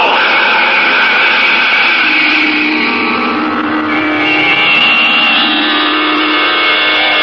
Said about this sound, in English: Its exhaust tube spitting smoke and flame, the rocket hovers over the ground for an instant, then quickly accelerates, and at a speed of 5,000 miles per hour, it arrows into the night sky and disappears from view.